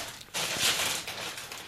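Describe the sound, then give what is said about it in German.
A bag of Funny Frisch crisps is torn open, with a sudden crackling rip followed by a stretch of loud, crinkly plastic rustling. No one speaks. “Seid ihr bereit? Ich mach die Tüte jetzt auf.”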